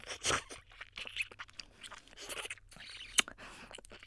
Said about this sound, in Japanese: おちんちんを全部飲み込んで。ズルズルってすすり上げたり、